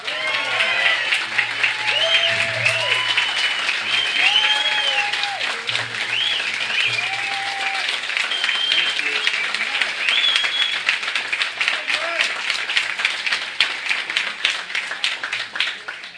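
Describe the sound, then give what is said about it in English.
Sustained audience applause at a forum, welcoming a speaker before his talk, lasts about sixteen seconds, a dense steady wash of many hands clapping, with a few scattered whoops and voices rising through it. “Well, you know, it gets embarrassing when the applause you get before you speak are longer than the applause you get after you speak.”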